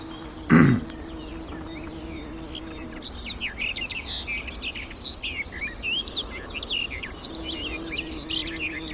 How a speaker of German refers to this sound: Ja, es ist abwechslungsreich. Da. Und auch sie streut Imitationen mit rein. Es klingt so ein bisschen die Amsel raus.